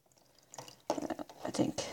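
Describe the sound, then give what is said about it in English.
Water is poured from smaller containers into a bigger one, filling a steamer, splashing and gurgling in uneven bursts that grow fuller and louder toward the end. “I probably should have just got a bowl and just, because I'm kind of putting water in from into these smaller containers and then transferring the water into the bigger one.”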